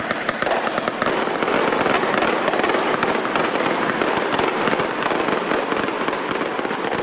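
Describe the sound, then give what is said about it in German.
Fireworks at the close of the yearly August summer festival in Dubrovnik, Croatia, explode in a dense, continuous barrage of sharp cracks and pops, layered over a steady rumbling roar that stays loud throughout, with no voices. “In Dubrovnik findet jedes Jahr im August ein Sommerfestival mit abschließendem Feuerwerk statt.”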